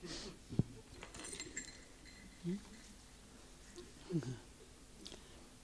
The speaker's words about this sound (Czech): Tady vidím, že už se pes bouří, že jo? A zvoní zvonečkem.